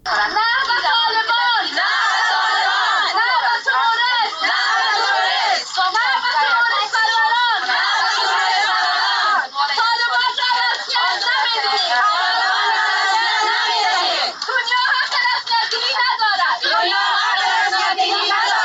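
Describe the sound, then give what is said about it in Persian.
A crowd of Afghan women chanting and shouting together at a protest rally in Islamabad, Pakistan, against one year of Taliban rule in Afghanistan, their raised voices loud, continuous and overlapping throughout, with brief dips between shouted phrases. “صدای اعتراض زنان افغان است که در اسلام آباد پایتخت پاکستان بلند کردند.”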